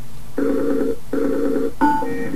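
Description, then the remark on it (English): A telephone rings twice over the line, two steady buzzing tones with short pauses between, before the ringing cuts off into a different brief tone. “Ain't even picking up the phone.”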